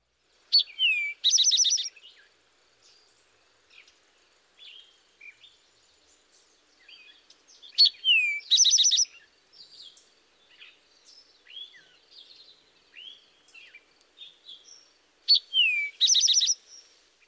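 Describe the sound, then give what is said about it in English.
A rufous-sided towhee sings three times, each song two clear whistled notes followed by a fast buzzy trill, fairly loud, with softer chirps from other birds in the gaps. “The towhee's song is comprised of two clearly whistled notes followed by a trill.”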